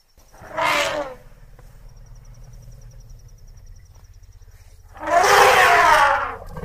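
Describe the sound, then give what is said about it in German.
An elephant's deep, low rumbling contact call drones steadily throughout, broken by two louder, harsher bursts of noise, one brief near the start and a longer one near the end. “Das ist der Elefant. Echt? Dieses dumpfe Kollern ist so dieser Stimmfühlungslaut.”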